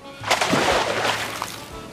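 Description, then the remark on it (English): A seal drops from a boat into the sea with a sudden splash, followed by a couple of seconds of sloshing and churning water, with a low engine-like hum underneath. “Sinbad went in with a splash.”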